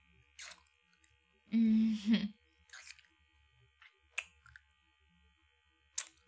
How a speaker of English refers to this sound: What if I kiss and suck on your neck like this?